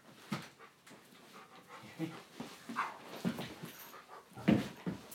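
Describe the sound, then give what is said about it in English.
A dog pants in quick, uneven breathy bursts, with a few soft whimpers mixed in, continuing steadily for a few seconds with no one talking. “Silly dog. Yes, that's Piglet again.”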